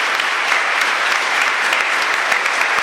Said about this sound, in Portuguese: Então vamos dar uma salva de palmas a eles, que Deus os abençoe muito.